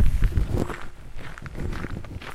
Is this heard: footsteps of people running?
yes